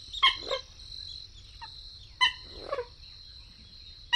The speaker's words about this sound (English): Gallinules, plump water birds shaped like coots, swim on the surface.